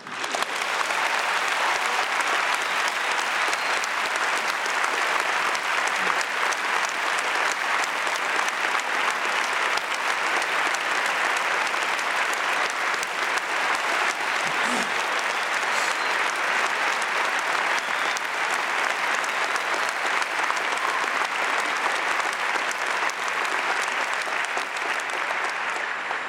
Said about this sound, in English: We are pleased to announce the appointment as the 17th president of BYU-Idaho of Henry J. Eyring. President Eyring will formally assume his duties on April 10th, 2017. You may wish applause for that.